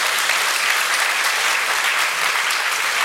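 An audience claps steadily, a dense, even wash of many hands with no breaks and no voices, holding at a consistent fairly loud level throughout.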